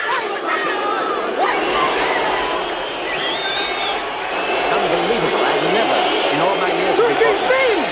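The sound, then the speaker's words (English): A hostile boxing arena crowd roars for its champion Ivan Drago as Rocky Balboa of the United States is introduced, a dense wash of many shouting voices and jeers with occasional higher whistles and yells rising above the constant loud din. “Such a hostile crowd.”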